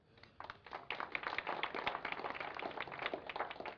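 An audience breaks into applause, many hands clapping in a dense, crackling patter that swells after a soft start and holds steady to the end, with no voices over it.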